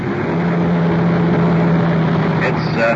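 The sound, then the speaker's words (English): A car engine hums steadily as the vehicle rolls in and pulls over to the curb at the liquor store on the corner, with a low droning tone and a slight shift in the motor near the end. “We're wheeling into the curb.”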